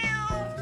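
A single cat meow, clear, with a tonal, slightly drawn-out cry lasting under a second and no talking over it.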